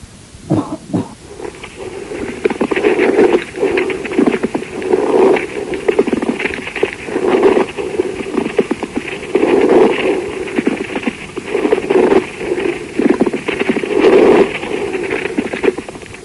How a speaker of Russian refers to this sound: Шум трения плевры представляет собой прерывистый звук непостоянной интенсивности.